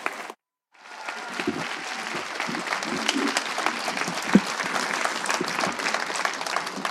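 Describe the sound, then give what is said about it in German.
A crowd bursts into sustained applause after a brief silence, a dense, steady clatter of many hands clapping that holds at a fairly loud level throughout, greeting the first text of a final in which the audience votes by applause. “Und ihr werdet jetzt den ersten Text des Finales hören und bitte macht einen finalwürdigen Applaus”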